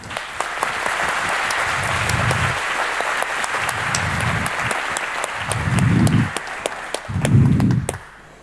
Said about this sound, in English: And I'd like to invite her up on the stage to tell you a little story of her own. So would you please give her a nice round of applause for joining us.